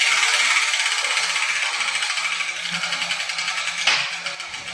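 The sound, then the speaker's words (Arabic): A prize wheel is spun to drop a ball with a letter on it, with a steady, fast clicking rattle that runs the whole time, growing a little more uneven toward the end, with one sharper knock near the close. “طيب طيب يا حبيبتي، إذا نبدأ بتحريك الدولاب الآن.”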